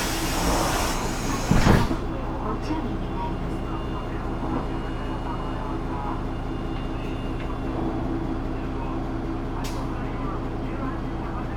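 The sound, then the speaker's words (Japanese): A train's sliding doors hiss and thud shut with a brief loud burst, then a steady low mechanical rumble continues as the train pulls away. “車動きます。”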